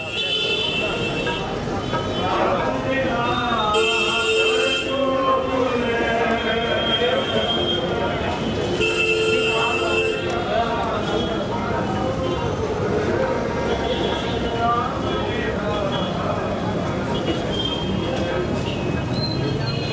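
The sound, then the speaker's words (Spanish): A loud, dense street soundscape in a huge city in India, passing a temple: continuous traffic rumble mixed with many overlapping voices, with sustained tonal sounds and squeals of constantly honking horns cutting in and out throughout. “Pasa por un templo y se produce un entrecruzamiento natural entre el caos de una ciudad enorme y la tranquilidad religiosa.”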